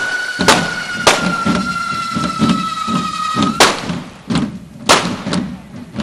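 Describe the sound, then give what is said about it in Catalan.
A rapid series of sharp firecracker bangs bursts out against a constant fizzing hiss, with loud cracks landing irregularly around a second apart amid a steady roar of burning fireworks, the final fire burst closing a devils' dance (Ball de Diables) festival performance. “Els dos petits de la jove, abans de l'esclat final de foc.”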